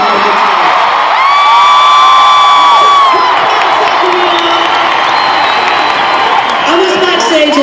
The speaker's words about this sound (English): Listening to you guys sing and scream and clap, and it sounds really awesome even through the brick wall.